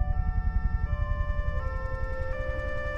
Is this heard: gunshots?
no